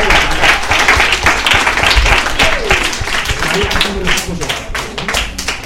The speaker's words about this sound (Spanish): Pues muchísimas gracias y un aplauso, que nos ha dado unos consejos muy valiosos.